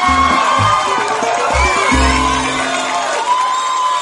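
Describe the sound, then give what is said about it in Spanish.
A loud crowd of fans cheers and shouts continuously, with whoops and excited voices blending into a dense roar that stays steady for several seconds. “Ahí grita la hinchada del Sensei”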